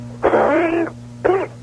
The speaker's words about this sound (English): Coughing a lot there, sir.